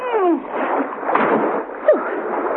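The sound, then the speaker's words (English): Continuous splashing and sloshing of water as a woman heaves herself out of a swimming pool, with a brief sharper splash near the end and no talking. “heaved herself out of the water.”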